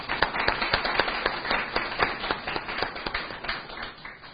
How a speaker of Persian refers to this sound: خب خیلی متشکرم. اولا جناب استاد رو تشویق بفرمایید.